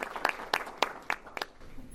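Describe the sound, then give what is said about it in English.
Sparse, quiet applause for a homesteader and former staff member: about six sharp hand claps at a steady, unhurried pace, with no voices and soft background noise between them. “Please, let's give a great big round of applause to Peggy Arness, our homesteader, our former staff person, our congressional delegation.”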